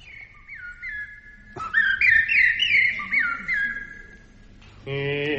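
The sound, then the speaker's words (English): A person whistles an imitation of bird song on an old hit record played at the wrong speed: warbling trills and sliding chirps, clear, ending with a brief steady, buzzy tone. “this would-be bird song was a great hit many years ago.”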